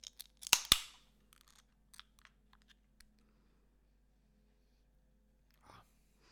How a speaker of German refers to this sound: Aber so in diesem Sinne, lass uns doch mal jetzt die Dose aufmachen. Die Dose köpfen. So, genau so.